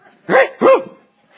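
A dog barks twice in quick succession, two sharp, fairly loud barks close to the listener, then falls quiet.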